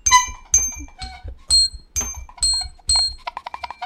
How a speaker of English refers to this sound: I think this horn is broken.